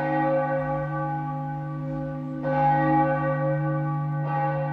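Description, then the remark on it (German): A large church bell tolls with deep, sustained ringing harmonics, struck again about halfway through and once more near the end, each strike blooming over the lingering hum of the last. “Jede Kirche hat eine.”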